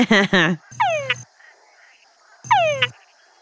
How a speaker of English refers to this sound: Ooh, that's like a mating call. Yeah, so I work with a species of frog that has a very, very clear, strong, distinctive call to attract females. Can we hear that? Can you play something for us?